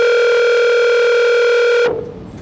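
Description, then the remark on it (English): A telephone ringing tone while a call to the State Prison Complex in Yuma is transferred plays as one long, steady electronic buzz, loud, for nearly two seconds before cutting off abruptly into faint background hiss. No one speaks. “Leave while I transfer your call.”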